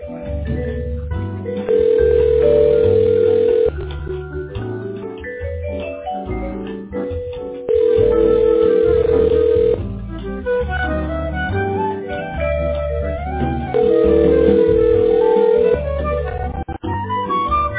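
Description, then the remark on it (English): A telephone rings three times, each steady two-second tone spaced several seconds apart, sounding over tinny, band-limited hold music that plays throughout, while a caller is on hold with a customer service line. “The phone's ringing too.”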